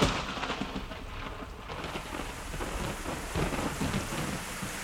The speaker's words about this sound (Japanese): そして夕立は一転空を曇らせ、急にザーザーと勢いよく降る。